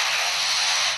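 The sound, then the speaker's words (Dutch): A lyrebird living next to a construction site mimics a circular saw: a loud, steady, hissing rasp that holds evenly for about a second before cutting off abruptly, with no voices. “Wipzaag.”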